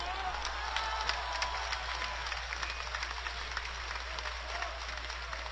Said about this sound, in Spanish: el público que oyó aquello empezó a gritar y aplaudir. La gente fue desalojada con el uso de la fuerza y la audiencia fue suspendida.